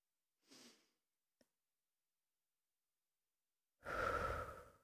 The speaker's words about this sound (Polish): Wdech nosem i wydech ustami. Weź takie trzy, jak najgłębsze, jak najwolniejsze, spokojne oddechy. Wdech. I wydech. I wdech.